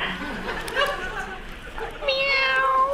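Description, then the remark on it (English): A cat meows a few times, with a short mew early on and then a long, drawn-out, loud meow close to the listener over a faint noisy background. “Fashion critics couldn't help but say meow at the ESMOD International Fashion Show in Istanbul this week after a stray cat wandered onto the catwalk during the show.”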